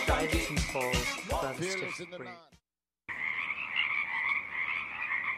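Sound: pacific chorus frogs singing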